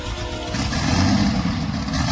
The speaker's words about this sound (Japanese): そしてこのレスポンスのいい吹け上がりは水平対向のエンジン。 おい、まさか。 ああ、こいつを積んでるのは大概ワーゲンかスバルか、やつの愛車ポルシェしかねえぜ。